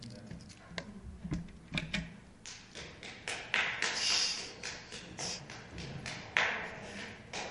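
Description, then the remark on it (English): A run of sharp, irregular hand claps, moderately quiet, repeating steadily for several seconds over a soft background murmur; a woman clapping because a speaker has just finished. “She's clapping because I'm done, huh?”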